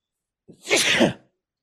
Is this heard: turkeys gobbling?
no